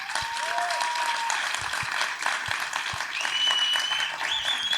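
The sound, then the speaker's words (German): Sustained audience applause, dense and steady for the whole stretch, with a few faint whistles rising above the clapping. “Erstmal euer Applaus.”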